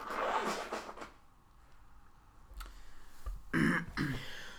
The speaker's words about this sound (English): Sorry, guys. My allergies are killing me. I got to blow my nose.